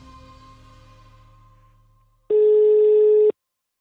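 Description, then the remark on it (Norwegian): A phone call rings out: a single loud, steady ringback tone lasting about a second, following a fading, lingering musical tone, with no voices. “Så vi ringte ham opp.”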